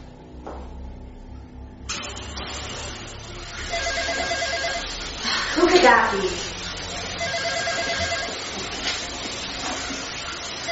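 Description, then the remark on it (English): A telephone rings with repeated bright trilling bursts, fairly loud, while a person speaks briefly over it amid a steady background hum. “Darn it, why'd the phone have to ring?”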